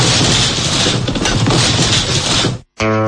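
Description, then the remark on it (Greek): A loud, sustained crashing roar of rubble and debris as the Zappeio building is demolished, rumbling for over two seconds before cutting off abruptly, followed by a short harmonic tone. “Αυτό είναι το Ζάπιο που γκρεμίστηκε.”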